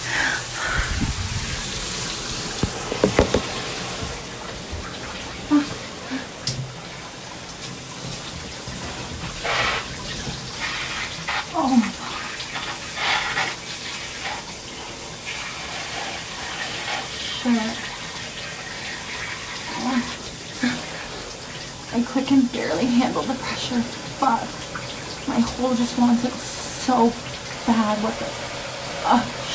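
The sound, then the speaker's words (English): Water runs from a shower head in a steady, hissing spray that fills the whole clip, while a voice breaks in now and then with short murmurs and breathy sounds over it. “I'm gonna put the phone down now so I have two hands so I can fuck myself and use the shower head of my swollen clit.”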